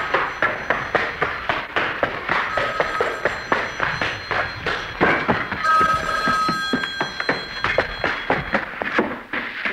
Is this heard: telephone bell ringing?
yes